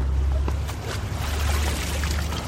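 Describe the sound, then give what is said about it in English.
Water splashes and pours steadily from an outdoor village fountain, with a few brief sloshing bursts as a cyclist plunges his helmet into it, over a low continuous rumble, on the Tour de France mountain climb from Grenoble to Courchevel. “Sweat drips from his face as this brightly clad rider plunges his helmet into an outdoor fountain.”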